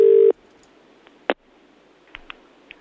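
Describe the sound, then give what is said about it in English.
A loud, steady telephone tone cuts off after a moment, followed by a sharp click and then a few short, quieter keypad beeps spaced unevenly over a faint background hiss, as one is pressed on the keypad. “Oh, no, you pressed one.”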